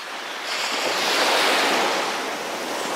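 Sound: ocean waves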